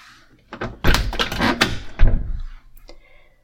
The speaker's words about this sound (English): Come on in. Shut the door, please.